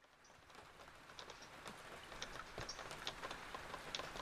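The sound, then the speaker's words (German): Steady rain falls in a continuous hiss under a dark grey sky, with scattered sharper drops pattering and tapping. No voices, just the even wash of rainfall throughout. “Regen, Regen. Der Himmel dunkelgrau.”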